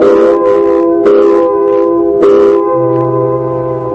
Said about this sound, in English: Came quitting time, there was a whistle. Loud enough to buckle your knees and send waves up your spine.